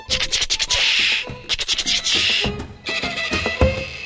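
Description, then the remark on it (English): A scratchy, raspy 'chichada' (cicada) effect bowed behind the bridge of a bass, buzzing in loud, pulsing strokes with bright grinding noise and a few low thumps, like a giant insect. “And there's a sound effect called chichada, which means cicada. And it's a really scratchy sound that they actually bow behind the bridge.”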